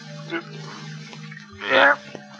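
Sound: water splashing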